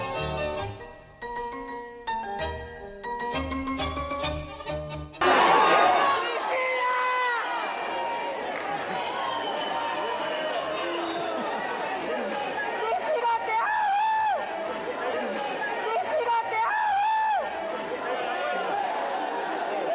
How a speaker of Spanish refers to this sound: Ese era el momento entre sus seguidores y con gritos de apoyo en el que el joven Sabac Montiel dispara contra la vicepresidenta argentina Cristina Kirchner y se le encasquilla el arma.